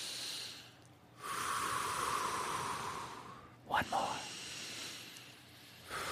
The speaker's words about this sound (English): Let's take three deep breaths. All right. Just center ourselves and get ready for this odyssey we're about to do. Okay. Okay, here we go. One, two, three. Breathe Everybody, with us at home. Join in.